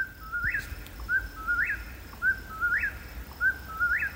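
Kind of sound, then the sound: bird, whip-poor-will call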